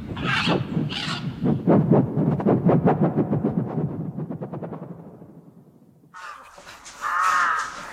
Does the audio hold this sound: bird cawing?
yes